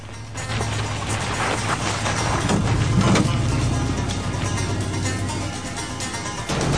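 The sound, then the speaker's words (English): A car engine roars steadily while tires grind over rough dirt as the car veers off the road onto dirt, the back wheel sending plumes of dust into the air; a continuous gritty rumble with a brief swell of noise midway. “Louise veers off the road, the back wheel sending plumes of dust into the air.”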